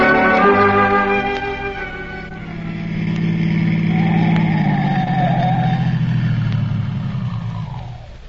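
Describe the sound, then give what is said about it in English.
A car engine hums steadily as the vehicle drives along a road with no houses in sight, then the engine note drops and slows as it rolls to a stop, fairly loud with no voices. “Stopping the car here, Dr. Christian. There isn't a house in sight.”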